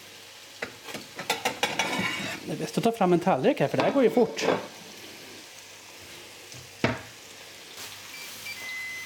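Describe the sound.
Hamburgers sizzle on an OBH Nordica OptiGrill Plus grill with a steady, faint crackling hiss throughout, while a person talks for the first few seconds; a single sharp click stands out near the end.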